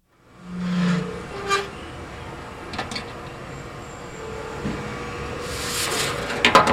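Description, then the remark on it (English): The wide door of a large commercial bakery oven, the size of a pickup truck bed, at McLean's bakery in Waldo, Kansas City, slides open over a steady mechanical rumble as the rack of cinnamon rolls turns inside, with a low hum and a few metallic clanks and rattles toward the end. “The wide door opens to show the rack slowly rotating inside.”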